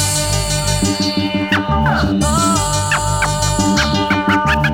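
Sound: DJ turntable scratching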